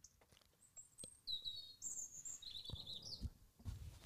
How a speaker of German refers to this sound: Besser als der Vogel könnte ich es auch nicht sagen.